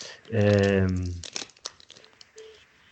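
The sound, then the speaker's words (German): A sustained voiced hum gives way to scattered crinkling and crackling, irregular dry clicks and rustles that keep popping at a moderate level. “Da ist ja schon wieder einer hier am Knistern.”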